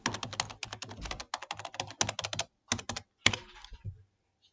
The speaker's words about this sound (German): Hast du erraten, was das war? Das war eine Tastatur.